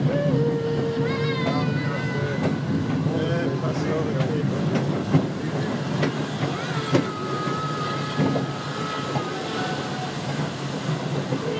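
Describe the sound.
Steady rumble and rattle from inside a moving train carriage hauled by the steam locomotive Flying Scotsman, one carriage behind its tender, with a tank engine at the rear; occasional clanks and knocks over the running noise and muffled voices in the background.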